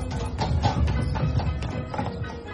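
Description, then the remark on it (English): Horse hooves clop in a steady, uneven rhythm as a horse-drawn landau carriage approaches, moderately loud, over a low rolling rumble of wheels. No one speaks. “Ah, here comes the landau.”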